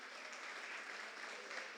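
A crowd applauds steadily, a dense crackle of many hands clapping at an even, sustained volume throughout, with no voices rising above it.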